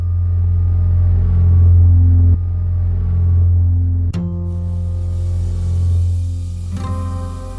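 The engine of a light blue 1965 Opel Rekord B car runs with a deep, steady, loud rumble, its pitch shifting at a few abrupt changes like gear shifts or revs. No one speaks.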